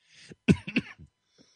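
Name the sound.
cough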